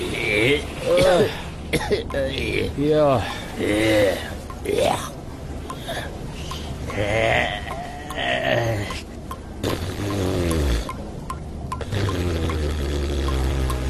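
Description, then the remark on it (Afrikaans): Water splashes and pours steadily as two people surface from a river, gasping, coughing and murmuring, the watery churn continuing under the breathless vocal sounds throughout. “Na hulle 'n week lank asem moes ophou, verskyn Gomtor en Delmas uit die rivier.”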